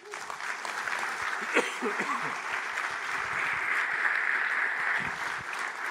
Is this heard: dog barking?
no